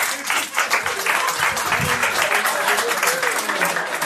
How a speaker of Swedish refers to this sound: Så en stor applåd till kvällens första komiker